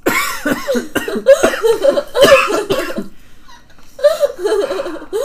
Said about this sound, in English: That was a cough. That wasn't a laugh. It sounded like you were having a little laugh.